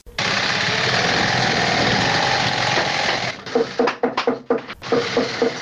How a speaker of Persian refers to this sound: یکی از کارخانه های تولید بود در شهر کابل که کارگران آن با دلسردی تمام و نامید از یک آینده روشن چکش می زنند و چرخ ماشین های بودوزی را به صدا در می آورند.